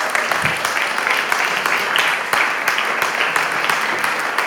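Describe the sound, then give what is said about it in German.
An audience applauds steadily to welcome the children, dense overlapping claps forming a loud, continuous wash of sound with occasional sharper individual claps standing out, and no voices heard. “Und jetzt begrüßen wir unsere Kinder mit einem kräftigen Applaus.”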